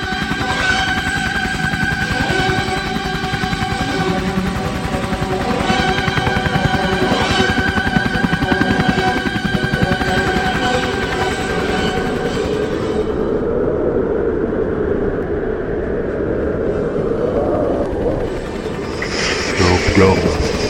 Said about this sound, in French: Un hélico.